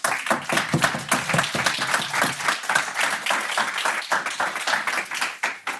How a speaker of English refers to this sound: So please give a warm round of applause